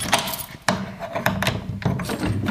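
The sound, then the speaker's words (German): The wrong key is tried in a door lock: a handful of sharp metallic clicks and rattling scrapes at uneven intervals, with dull knocks against the door and no talking. “Das Problem ist einfach, ich habe den falschen Schlüssel.”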